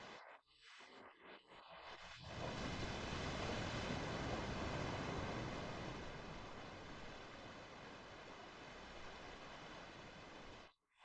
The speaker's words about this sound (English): The sound of the ocean releases your muscles and makes every cell in your body float on a great ocean.